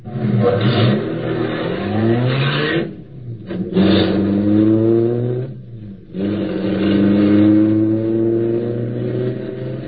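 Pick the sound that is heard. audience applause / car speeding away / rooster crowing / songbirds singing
car speeding away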